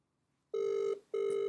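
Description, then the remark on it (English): A telephone ringing tone heard down the line as a call is dialed to people in Victoria: two loud, steady buzzing bursts separated by a brief pause, clear, with no one speaking. “She's ringing.”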